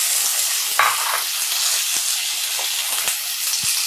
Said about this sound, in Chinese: 这个是调和油，我现在放一点点油啊，就这么多，可能再多一点。首先把香切好片的香干放进锅里炸一下，这样才会更香。